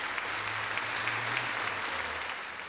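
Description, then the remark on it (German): Sustained applause from a large theatre audience at the Kärntnertortheater, a dense, steady wash of clapping without pause, with a low hum running underneath. “Für das Publikum gab es nun kein Halten mehr. Das ganze Kärntner Tortheater hat gebebt.”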